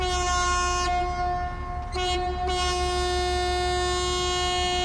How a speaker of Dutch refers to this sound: Dus ik zou zeggen, druk maar op de hoorn, de scheepshoorn. Want dan gaan we nu echt varen.